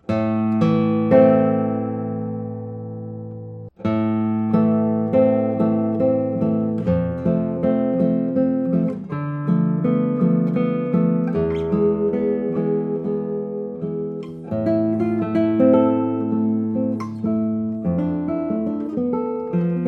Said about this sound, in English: Amazing, because the sustain of a guitar, if a guitar has a long sustain, you usually hear the overtones of the guitar, but in this case I hear every note, every tone is still ringing.